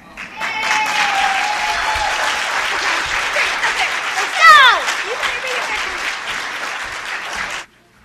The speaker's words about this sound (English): All right, give him another round of applause, please. Come on.